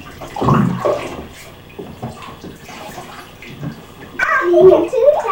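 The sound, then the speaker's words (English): A child splashes water in a bathtub in several uneven bursts, fairly loud, with a stronger burst of splashing near the end. “Sweetie, don't splash me.”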